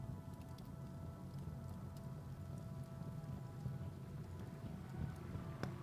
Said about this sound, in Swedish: Det börjar regna. Det bara duggar lite. Det skulle inte regna, de lovade. Men det kanske bara är en skur kanske.